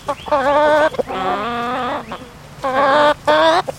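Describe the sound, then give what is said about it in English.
Hens on a farm cluck and squawk in a run of loud, harmonic calls, several bursts with short pauses between them, and no voices. “lives in a small apartment at the farm, just past the hens.”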